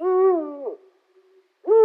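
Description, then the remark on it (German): A Eurasian eagle-owl gives deep, resonant hoots: one long, steady call that fades out, a pause, then the start of a second hoot, loud with no voices. “Und so klingt der Uhu.”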